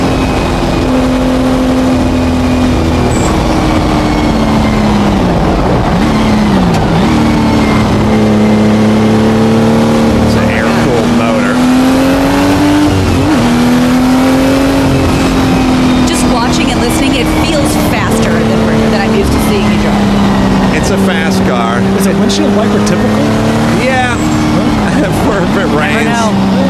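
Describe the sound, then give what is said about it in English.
A loud race car engine with a four-speed gearbox accelerates hard, its droning pitch climbing and then dropping with each gear shift, repeating several times over a continuous, roaring run. “Car's a 4-speed.”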